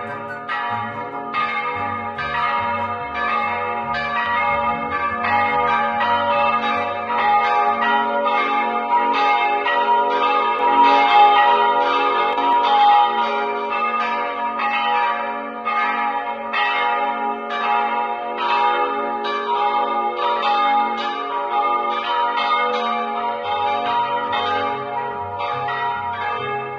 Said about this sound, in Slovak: Iba otcovi na smrteľnej posteli rozpovedal, ako to bolo naozaj s tými zvonmi. Od tých čias ich ľudia volali Matejové zvony. A vraj pretrvali bez opravy celé 10 ročia.